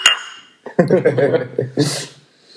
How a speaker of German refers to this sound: Ja, Prost. Prost. Ja, die knallen aber die Flaschen. Ja. Ja. Leckeres Heineken, ja. Doppelklang.